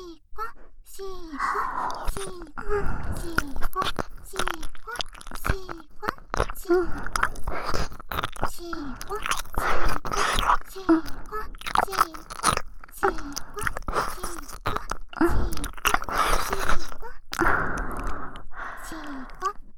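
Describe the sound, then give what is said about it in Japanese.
Close, wet mouth sounds of licking and smacking right beside the ear, a dense, continuous run of soft slurps and sticky clicks with small breathy pauses, intimate and fairly loud throughout. “こっちの耳が、僕も早くペロペロされたいよって泣いちゃってたから。”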